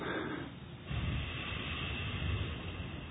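A forceful exhale pushed out through the right nostril while the left side of the nose is held closed with a finger, a breathy rush of air that swells after a short pause and holds steady for a couple of seconds. No one speaks.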